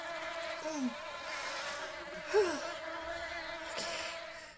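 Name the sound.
bee buzzing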